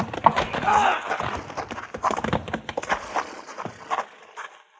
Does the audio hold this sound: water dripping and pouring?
no